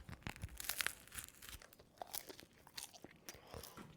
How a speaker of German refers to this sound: Warte mal, ich muss jetzt erstmal vom Brötchen abbeißen.